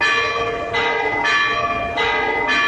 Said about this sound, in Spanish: Este es el repicar de campanas más antiguo del mundo que sigue sonando en la actualidad. La bamba debe su nombre a un rey visigodo y empezó a sonar en Oviedo en el siglo XIII.